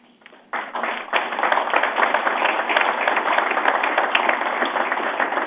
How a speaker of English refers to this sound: But more than anything else, I hope everyone will join me in thanking you and the others at SuperValu for doing a tremendous job. You really do deserve a round of applause.